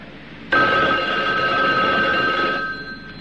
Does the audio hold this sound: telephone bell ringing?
yes